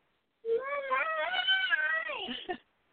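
human body sound, baby crying

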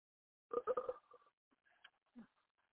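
human body sound, burp

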